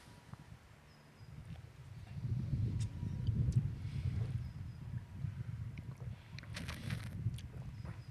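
Wind blows outdoors where people sit tasting rosé wine, a steady low rumble buffeting the microphone that swells after a quieter start and keeps gusting throughout, with no one talking.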